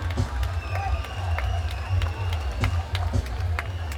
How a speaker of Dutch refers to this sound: Een hartelijk applaus voor minister Ashwin Adin.